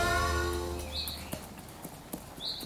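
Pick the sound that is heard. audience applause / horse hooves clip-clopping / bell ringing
horse hooves clip-clopping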